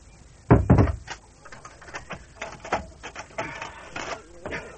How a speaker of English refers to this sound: There. I've locked the door and barred the shutters.